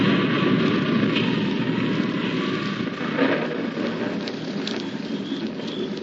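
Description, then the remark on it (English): A heavy, unbroken roar of a violent wind and rain storm fills the scene, loud, with a constant dense rush and occasional gusting surges and no voices. “When the wind and rain struck with a fury I'd never known before, it raged so violently I was forced to take refuge under a huge tree, wait for it to subside.”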